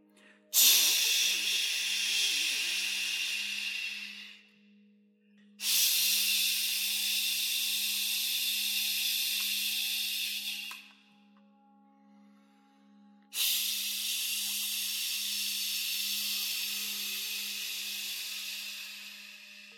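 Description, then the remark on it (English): Three long bursts of bright, hissing spray, each lasting several seconds with short silent gaps between, over a steady low hum. No one speaks. “And all you have to do is lay back and breathe in the mind control spray.”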